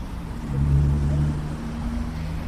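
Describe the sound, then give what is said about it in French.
A steady low rumble of engines from traffic at a busy intersection of Brivibas (Liberty) Street and Stabu Street in Latvia, where traffic never stops, with a heavier vehicle swelling past in the first second before the drone settles into a constant hum. “Au carrefour, entre la rue Brivibas, la rue de la Liberté, la rue Stabou, la rue des Poteaux, la circulation ne s'arrête jamais.”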